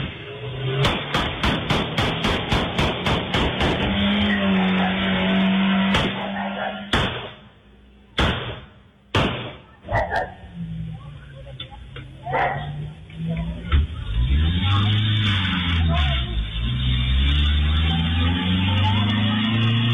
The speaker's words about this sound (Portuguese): Na frente, então, tem um pipoco de todo tamanho. E aí eles são fechados por outro carro, que simplesmente mete pipoco pra todo lado.